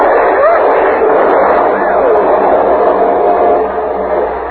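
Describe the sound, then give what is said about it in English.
A building explodes into a loud, steady roar of flames as cleaning fluid fumes ignite, a dense rushing din that holds for several seconds while thin whistling tones swoop up and down through it. “The cleaning fluid fumes made the whole building explode in a roar of flame.”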